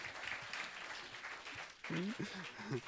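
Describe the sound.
An audience applauds a volunteer who has just acted out David slinging a stone at Goliath, with dense, steady clapping for a few seconds, and partway through a voice starts talking over the continuing applause.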